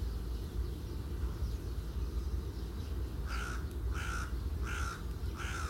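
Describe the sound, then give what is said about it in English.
A crow caws four times in a steady, evenly spaced series near the end, harsh, over a constant low rushing background like wind. “Where you can hear the bird song and the reeds and the gentle breeze.”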